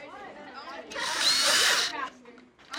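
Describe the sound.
A power drill whirs loudly for about a second as it bores into plastic, surrounded by nearby voices talking before and after the burst.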